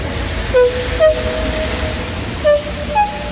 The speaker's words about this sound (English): Edward puffed and pulled his hardest, but his wheels kept slipping and he could not start the heavy train.